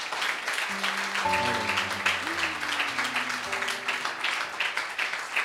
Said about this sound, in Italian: Facciamo un bel applauso.